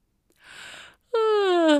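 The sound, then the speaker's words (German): A voice imitates a man yawning before he falls asleep: a soft, breathy intake followed by a long, loud voiced exhale that slowly slides downward in pitch. “Er gähnte.”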